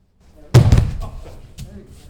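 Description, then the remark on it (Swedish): A judo throw: a person in a cotton judo suit is thrown and lands on the mat with a single loud, broad slam, followed by a brief rustle and faint shuffling as the impact dies away. “åker han till slut i mattan med en smäll.”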